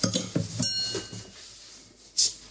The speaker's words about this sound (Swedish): Men... Vi korkar upp. Ja, vi gör ju det. 5,6%.